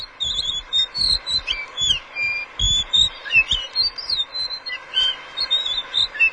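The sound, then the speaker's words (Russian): A blue whistling thrush sings a continuous run of bright, high whistled phrases, clear, over intermittent low thumping rumbles in the background. “Синяя птица, она дает определенный, может быть, момент счастья человеку, который ее увидит, и увидит ее вот красоту, и услышит ее очень красивое пение.”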